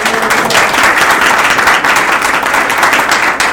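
An audience claps in a steady, dense round of applause, many hands blending into a continuous crackling wash that holds at an even, fairly loud level throughout, with no voices.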